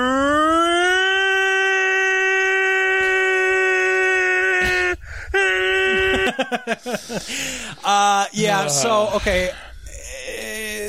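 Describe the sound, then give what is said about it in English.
A single voice imitates a tornado siren, holding a long steady wailing tone for about five seconds, then breaking into rising and falling swoops and warbles, loud. “Okay, guys, I'm going to do a tornado siren once again.”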